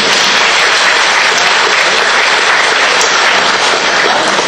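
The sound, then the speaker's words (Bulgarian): Sustained audience applause, a dense wash of many hands clapping at steady loudness for several seconds, with no voices standing out above it. “Аплодисменти, дами и господа.”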